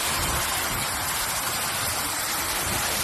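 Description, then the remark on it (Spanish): A steady, loud rush of spraying water from fire hoses putting out a large fire at a food company's warehouse in Burguillos, Seville, Spain, a dense hiss spread evenly across the whole clip with no pauses and no voices. “Es el sonido de las mangueras de agua apagando el impresionante incendio que ha afectado a una nave de una empresa de alimentación de esta localidad sevillana.”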